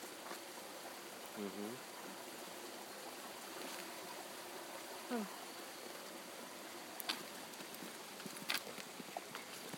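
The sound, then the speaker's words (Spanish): A river flows with a steady, continuous rushing wash as the listeners pass near it. Faint, brief voice-like murmurs and a few soft clicks rise over it now and then. “Y ahora pasamos cerca de un río, ¿no?”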